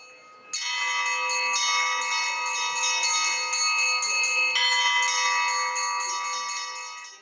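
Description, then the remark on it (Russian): A peal of church bells rings out loudly and continuously from a school (gymnasium) belfry, with bright overlapping tones in quick succession and a rich, sustained shimmer, and no voices. The bells call Olympiad participants to the house church of St. Tikhon of Zadonsk. “Ну а после регистрации колокольный перезвон гимназической звонницы призывает всех участников Олимпиады в домовый храм во имя святителя Тихона Задонского.”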